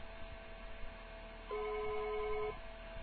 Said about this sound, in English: Let's see what happens. Do you hear that? It's ringing. Wow. Let's see if you can hear my phone ringing.